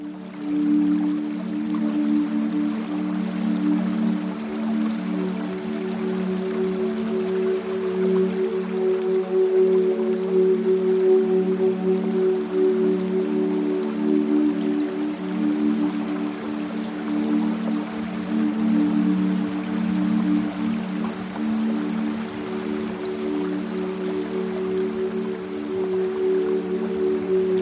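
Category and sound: nature, flowing river water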